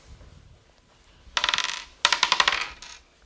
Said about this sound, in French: Je relance les dés